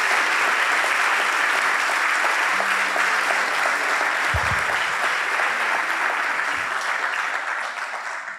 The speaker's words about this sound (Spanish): Jesús te ama tanto que entregó voluntariamente su vida por vos y derramó su sangre para que vos y yo y toda la humanidad seamos salvos. Eso también merece un aplauso.